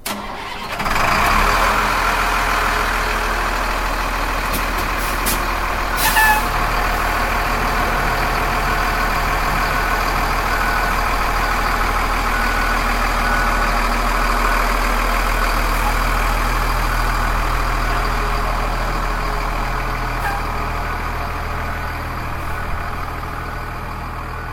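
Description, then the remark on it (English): A 2002 Freightliner fire tanker truck engine, able to carry 3,000 gallons of water, turns over and settles into a steady, deep idle, rumbling loudly and continuously, with no voices. “A group of about 10 firefighters then pushed the new Tanker 261 into the Charles City Fire Station Thursday night.”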